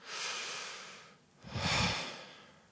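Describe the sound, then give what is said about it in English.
A person imitates slow, deep breathing: one long airy inhale, a brief pause, then a fuller, heavier exhale with a soft rumble, with no talking. “Mahavishnu starts breathing.”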